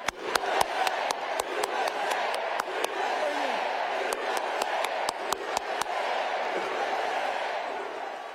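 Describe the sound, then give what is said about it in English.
A large crowd at the Harris Walz rally in Arizona chants "USA" in a steady, loud roar while Tim Walz claps sharp, rhythmic hand claps in quick bursts over the noise. “That was Tim Walz clapping, the loudest clapper, and the crowd chanting, USA, USA, USA.”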